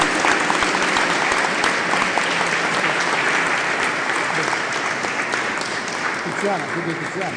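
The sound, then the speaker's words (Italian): A crowd claps steadily for several seconds, a dense, even wash of applause that holds its level throughout, with faint voices mixed in toward the end. “Gli facciamo, sopra se c'è l'angolo dedicato a lei, però facciamo un applauso, perché la vita è bellissima.”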